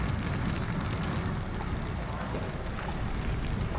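A large fire roars and crackles steadily, a dense hissing rush of flames with scattered pops running unbroken from start to finish, as an illegal tent camp in Italy burns at night, started by someone warming themselves at a fire and spreading to self-built huts made of trash and plastic.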